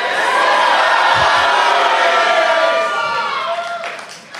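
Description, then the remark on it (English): A live audience at Oklahoma Contemporary Center for the Arts in Oklahoma City, Oklahoma, screams and cheers loudly and continuously, a dense wash of many high voices that holds steady for several seconds before tapering off slightly at the end. “This is Doug Loves Screaming. That was awesome. I love being screamed at.”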